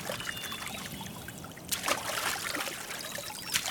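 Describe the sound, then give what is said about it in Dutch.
Soft trickling and splashing water as a canoe is paddled gently over a calm stream, with a few brighter splashes of paddle strokes partway through. No voices. “Hiawatha stapt in zijn kano en peddelt over een rustig beekje.”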